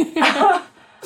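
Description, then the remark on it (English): A single sharp sneeze, a quick voiced intake bursting into a breathy, hissing release that fades within half a second, with no talking over it. “Bless you.”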